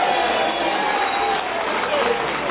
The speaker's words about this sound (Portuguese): Primeiro, vou começar, e aplausos de vocês, para o Jean Argelo, relator da comissão.